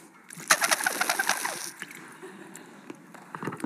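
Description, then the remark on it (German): A bottle blown to mimic a duck's call: a rapid run of raspy, honking pulses for about a second and a half, then quieter breathy noise with a few faint hoots at the end. “Wenn ich mit der Flasche draußen unterwegs bin, locke ich Enten an.”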